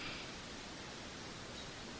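waterfall

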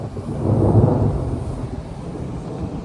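loud thunder rumbling

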